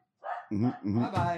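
A dog gives a brief whine, then three loud, quick barks in a row.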